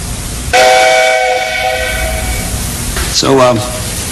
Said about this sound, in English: Did you get your whistle fixed, Mr. C? It's as good as new, Billy.